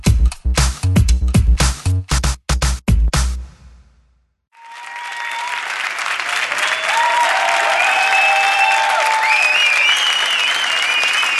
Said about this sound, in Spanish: Esas palmas arriba, todo el mundo, arriba ese ánimo, todo el mundo.